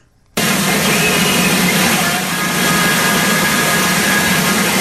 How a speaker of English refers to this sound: So a lot of static noise there, but you can hear music in the background. Sometimes the radio station they're hearing plays music. It's a Christian station in town. And sometimes they're talking.